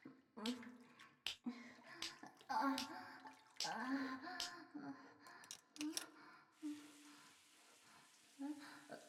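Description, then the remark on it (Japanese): Shower water runs in a steady hiss as a body is being washed off, a woman's voice talking and breathing over it before the spray carries on more evenly near the end. “シャワーですか？体の洗い流しちゃうんです。”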